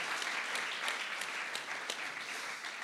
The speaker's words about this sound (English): Come on, praise Jesus. Let's give that a clap.